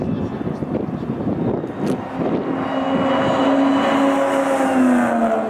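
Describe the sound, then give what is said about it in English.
A supercharged car accelerates hard down the straight after turn three at Pocono Raceway, its supercharger kicking in, the engine note climbing into a steady, rising whine over loud rushing road and wind noise, sustained throughout. “I come off turn three, down the stretch. You could hear the supercharger kicking in, and this is a lot of fun, man.”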